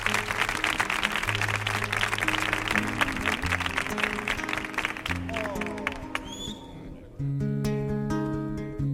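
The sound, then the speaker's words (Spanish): A crowd applauds a singer steadily for several seconds over a sustained low tone, the clapping thinning out before instruments begin playing a song near the end. “Fuerte el aplauso.”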